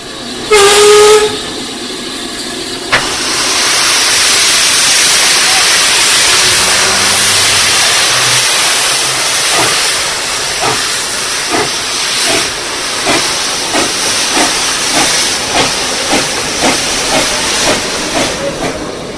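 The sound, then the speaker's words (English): The former NCB No. 7 steam locomotive, 75254, back in steam after 30 years, whistles briefly, then loud hissing steam gives way to heavy exhaust chuffs that steadily quicken as it pulls away hauling a passenger train, with no voices. “And there she goes, 75254, back in steam after 30 years.”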